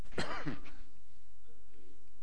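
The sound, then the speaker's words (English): A single rough, raspy cough lasting under a second, fairly loud, followed by quiet room tone with no talking. “It's a bad time to make a cough joke, I'm sure, but I'm going to do it anyway.”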